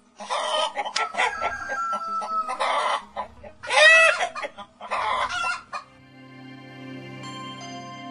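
chicken clucking

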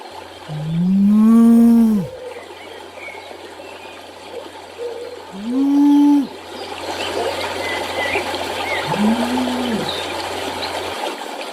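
cows mooing

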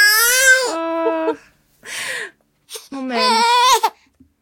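baby crying

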